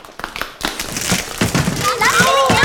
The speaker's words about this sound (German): Was war das denn? Wir sind die Treppe runtergefallen.